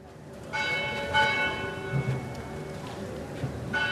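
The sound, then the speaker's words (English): Church bells of St. Anthony's Shrine in Colombo toll at 8:45 in the morning at a memorial, in slow repeated strikes, each ringing out with a long shimmering hum that lingers between blows, over a low murmur of outdoor ambience. “The bells tolled at 8:45 in the morning at St. Anthony's Shrine yesterday.”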